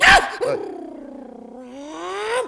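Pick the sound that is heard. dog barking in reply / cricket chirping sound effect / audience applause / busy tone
dog barking in reply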